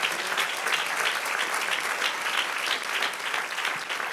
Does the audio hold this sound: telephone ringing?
no